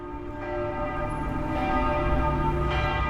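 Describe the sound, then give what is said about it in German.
Church bells peal continuously, their overlapping metallic tones ringing out loud and full with a steady resonant hum beneath, and no voices. “Ihre Jugendweihe wird ohne Glockengeläut beginnen.”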